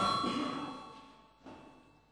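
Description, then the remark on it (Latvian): A parliament session bell rings with a bright, sustained metallic tone that slowly fades, then a second, softer strike comes about midway as the ringing dies away. No one speaks. “Paldies, lūdzu zvanu.”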